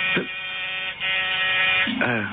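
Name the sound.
door buzzer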